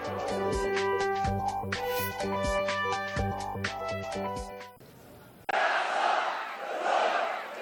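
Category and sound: crowd, protest crowd chanting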